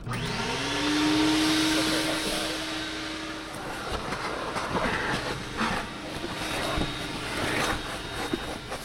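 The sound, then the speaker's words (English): A coin-operated vacuum cleaner roars up to a steady whine, then its nozzle scrapes and rustles unevenly across car carpet littered with scraps of leaves and grass, with bursts of scratchy suction noise. No one speaks. “Even though I worked hard to drag the vacuum nozzle over the carpet still isn't entirely clean.”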